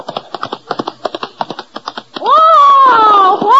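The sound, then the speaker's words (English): Horse hooves gallop in a quick, clattering rhythm of sharp knocks for about two seconds as a rider comes riding out of a gully, then give way to a loud, high, wavering cry that slides up and down. “As the scene opens, Lulu Bell comes riding out of the gully.”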